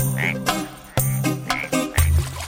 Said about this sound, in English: Frogs on a pond.